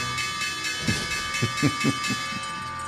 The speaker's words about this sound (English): There is the opening bell.